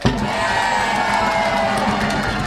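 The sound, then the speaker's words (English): A large audience yells and cheers to vote for the best of two dancers, a sustained, loud roar, voices blending into one continuous wall of noise with occasional higher whoops rising above it. “When I point out to number one, you yell as loud as you can.”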